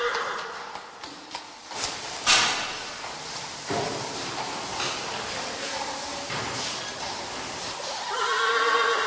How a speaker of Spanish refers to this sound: En un ala del castillo se pueden visitar los establos del siglo XVIII, que alojan los caballos de la familia real y una gran colección de carrozas.